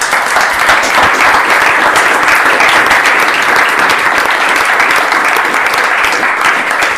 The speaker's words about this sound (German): Ich glaube, das ist schon mal ein Beifall wert.